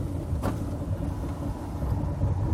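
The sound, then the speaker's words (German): Steady road noise from a car driving through city traffic in Cologne with the windows down on a hot day, a broad low rumble and hiss with a brief passing whoosh early on. “Sollen wir den Autos mal winken?”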